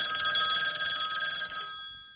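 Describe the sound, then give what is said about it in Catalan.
An old-fashioned telephone bell rings loudly and continuously in a rapid metallic trill for about a second and a half, then cuts off, leaving a brief fading ring. “Telèfon d'al·ludits.”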